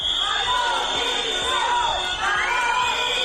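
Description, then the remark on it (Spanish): A large crowd of teachers in Asturias boos and shouts for the regional president's resignation without pause, with shrill whistles cutting through a dense roar of many overlapping voices. “Abucheos y gritos de dimisión,”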